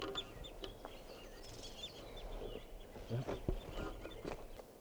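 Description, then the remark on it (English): A flock of birds calls continuously from a tree in a corral in Barfoot Park, the birds perched out of sight, with overlapping high chirps and peeps scattered throughout and some lower clucking and scattered knocks underneath at a moderate, steady level. “The flock is calling more now.”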